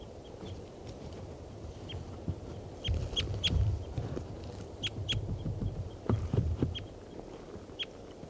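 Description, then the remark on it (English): A bird, numbered 387, calls repeatedly with short, sharp, high-pitched notes at irregular intervals, heard over a low, rumbling background noise with some soft thumps. No one speaks. “387 just called.”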